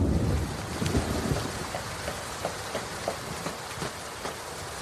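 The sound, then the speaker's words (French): Heavy rain pours down in a steady, dense hiss, with scattered sharper drips and patters standing out and a low rumble underneath; no voices are present. It is an evening rain scene from a film. “Et tiens, voilà qu'il pleut.”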